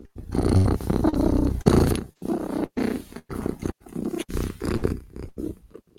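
A deep, rumbling big-cat purr-growl, loud, rolling out in a series of throaty bursts separated by brief pauses, with no talking.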